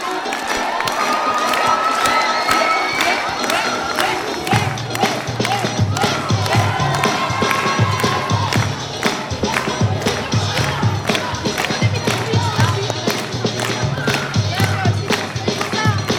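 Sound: audience applauding and cheering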